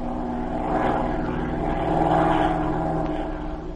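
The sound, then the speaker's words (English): A chartered propeller airplane drones steadily in flight, surveying the countryside from the air. Its engine is a continuous loud hum with a throbbing, slightly rising and falling tone, with no voices. “He advised her to notify the authorities of both countries and to charter a plane, cross the border, and make a close survey of the countryside from the air.”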